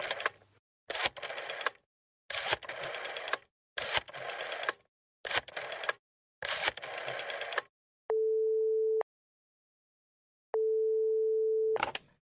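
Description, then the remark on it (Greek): A telephone is dialed with a rapid run of clicking bursts, like a rotary dial turning and returning, followed by two long steady ringback tones separated by a pause. “Πήρε κάποια τηλέφωνα.”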